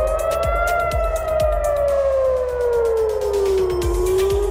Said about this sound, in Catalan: A Jerusalem han sonat les sirenes per alertar la població que es protegís als refugis antiaeris.